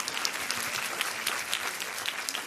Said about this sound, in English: Can we hear for the AV guy whose name is really Hondo? Big round of applause for Hondo.